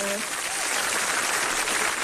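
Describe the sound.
Steady, dense applause fills the whole two seconds, a continuous crackle of many hands clapping at even loudness, with a brief voice heard only at the very start.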